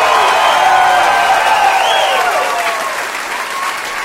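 A crowd applauds loudly and steadily, dense clapping mixed with whoops and cheers that hold strong before tapering slightly toward the end.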